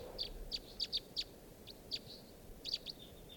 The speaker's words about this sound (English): These are the wild birds. On the top of a very, very tall lodgepole pine, and I don't see them foraging or anything.